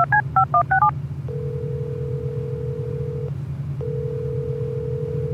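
telephone number being dialed

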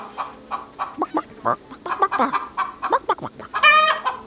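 chicken clucking

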